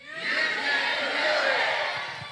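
A crowd shouts together in unison on a count of three, a dense roar of many voices that rises quickly, holds strong for about two seconds, then begins to fade.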